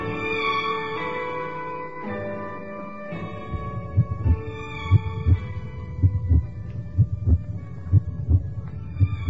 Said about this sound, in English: I was so curious that I had an audio sensor lowered into the hole. What for? I think you'd better come and listen, Professor. The heartbeats are very distinct.